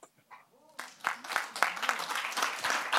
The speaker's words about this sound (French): Vous devez entendre les applaudissements, ils sont nombreux.